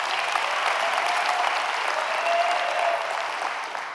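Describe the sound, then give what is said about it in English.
An audience bursts into steady, sustained applause, a dense wash of many hands clapping at once that holds strong for several seconds before easing slightly at the end. “Can we give him a big hand clap?”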